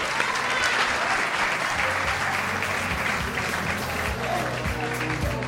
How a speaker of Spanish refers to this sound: Un fuerte aplauso para ella.